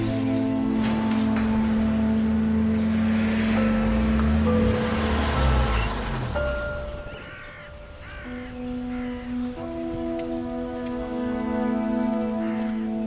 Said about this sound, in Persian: رامین با ماشین وارد حیاط میشه.